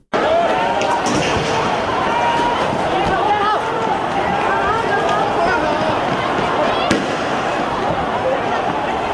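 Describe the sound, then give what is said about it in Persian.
Sharp pops of tear gas launchers being fired during an unauthorized pro-democracy protest in Hong Kong go off amid a dense, noisy street crowd of thousands of demonstrators, with shouting, chatter and hurried movement continuing throughout. “شلیک گاز اشک‌آور در جریان اعتراض‌های بدون مجوز رسمی در شهر هنگ کنگ، چیزی که زمینه رویارویی دموکراسی طلبان و پلیس را فراهم کرده.”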